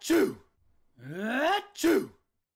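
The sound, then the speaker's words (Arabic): A voice imitates a town mouse sneezing because its straw bed makes it itch: two sharp, breathy sneezes separated by a rising, drawn-out inhale, the whole sequence quick and fairly loud with no other sounds. “عند النوم لم يحب فأر المدينة فراش القش، فقد سبب له القش حكاكا وجعله يعطس كثيرا.”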